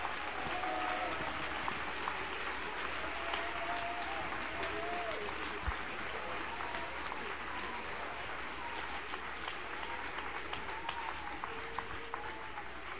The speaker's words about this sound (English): Come on, applause for Jesus.